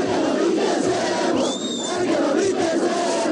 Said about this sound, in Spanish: Comenzaron los gritos de amenazas, de burlas. Escuchen este grito: "El que no brinque es emo".